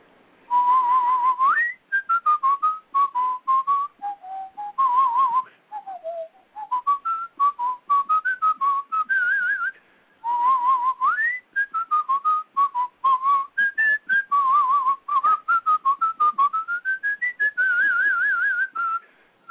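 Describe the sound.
A person whistles a lively melody alone for about twenty seconds, the theme of the kids show Officer Joe Bolton, a clear bright tone that hops up and down in short phrases with a few quick pauses between them.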